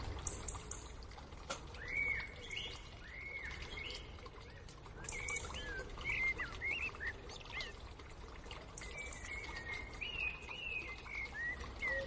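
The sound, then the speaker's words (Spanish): A blackbird, a turtle dove and a serin sing and call outdoors in the Botanical Garden on the Paseo del Prado in Madrid, melodic phrases and quick chirps overlapping, set against a steady low rumble of city traffic throughout. “Eso es el Jardín Botánico, en el Paso del Prado hay un mirlo, hay una tórtola, un verdecillo, y de fondo se escucha un run-run.”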